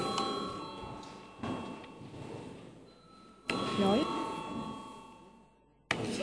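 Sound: parliament chamber bell ringing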